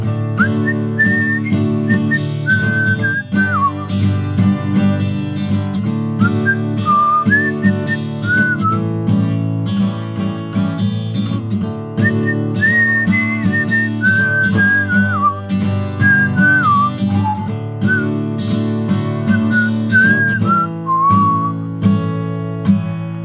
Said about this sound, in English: Necessary whistle solo.